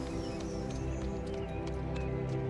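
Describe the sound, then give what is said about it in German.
Horse hooves clip-clop at a steady trot as riders on horses and a dog ride onward, a dense run of quick clattering beats over a rumbling ground noise, moderately loud. “Schwungvoll werft ihr euch wieder auf Hund und Pferde und reitet weiter.”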